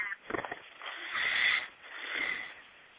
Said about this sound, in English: Breathing like that. Somebody being successful at breathing.